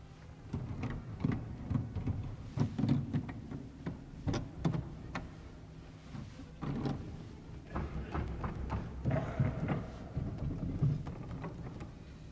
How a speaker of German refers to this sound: Es wird nichts erklingen. Nur der Leerlauf der funktionierenden Abstrakten ist zu hören.